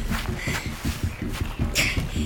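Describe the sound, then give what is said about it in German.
Quick, evenly paced footsteps thud softly on grass as someone runs barefoot across a lawn toward a riverbank, a steady run with no voices. “Über die schmale Treppe gelangte sie zur Hintertür und lief auf den Rasen, bis sie das Ufer des Flussarms erreichte.”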